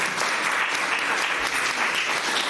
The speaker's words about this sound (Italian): Un applauso a questa Caritas Ambrosiana.